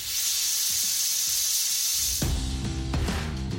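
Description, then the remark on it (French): A loud, steady jet of hissing steam runs for about two seconds, then gives way to a deeper rumbling, machine-like sound with a few sharp knocks. “Lui découvre le pouvoir de la vapeur d'eau et il fabrique le premier cylindre piston à vapeur.”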